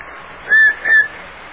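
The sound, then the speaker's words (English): Two short, clear whistled notes, fairly loud, the second slightly higher and steadier, with a faint hiss in the background and no talking. “Hey, who's whistling?”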